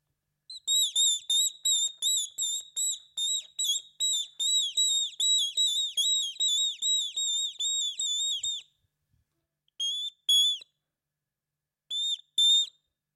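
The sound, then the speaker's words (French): A person whistles an imitation of a tit's song: a long, steady run of short, high, bright notes, then a pause and a few more isolated whistled notes, with no talking. “Et là, c'était la mésange.”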